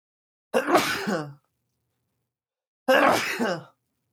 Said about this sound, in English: excuse me, I got to sneeze.